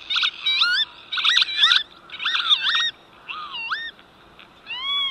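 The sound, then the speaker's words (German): Northern lapwings give a series of wheezy, slurred calls that swoop up and down in pitch, coming in several quick bursts over a soft steady hiss, with no talking. “So würde es dann tönen, wenn er wieder da wäre.”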